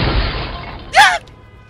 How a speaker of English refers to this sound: The bullet shattered your window and went through the windshield. It barely missed you.